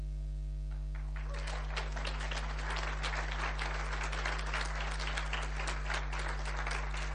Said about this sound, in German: Und übrigens, ich bin sehr dankbar für die Lobpreisgruppe an diesem Wochenende. Ich glaube, sie verdienen auch einen Applaus.